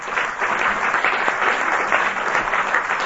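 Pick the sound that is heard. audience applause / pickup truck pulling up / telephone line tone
audience applause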